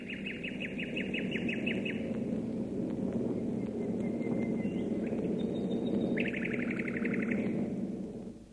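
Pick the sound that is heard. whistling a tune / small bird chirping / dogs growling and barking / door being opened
small bird chirping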